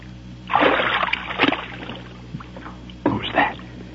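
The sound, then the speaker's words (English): Water sloshes and splashes in two bursts, a longer churning one followed by a shorter splash, as a person wading up a creek stumbles over a man, with faint hushed voices. “Going swimming? I stumbled.”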